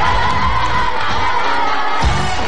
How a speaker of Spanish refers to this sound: Las chicas lo están pidiendo nuevamente. Las chicas lo están pidiendo. El grito de las chicas. El grito de las chicas.